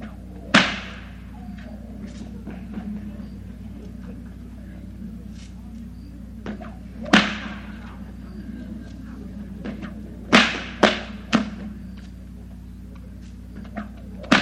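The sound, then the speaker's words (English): Five loud, sharp bullwhip cracks from a performer before an audience ring out at irregular intervals, two of them in quick succession, over a steady low background murmur with faint voices. “So whenever I take a finger off, I just put a notch on my whip instead.”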